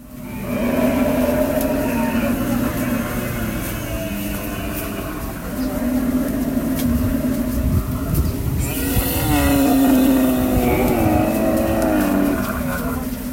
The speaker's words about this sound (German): War das jetzt Reporterglück, dass die an dir vorbeigezogen sind? Nee, das passiert wirklich öfter, so ein Dromedarstau, dass du dann auch einfach anhalten musst